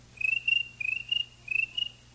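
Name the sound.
voice imitating cricket chirping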